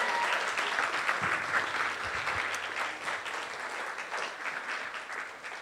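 Sustained audience applause, a dense crackle of many hands clapping at a steady, fairly loud level for several seconds without any talking.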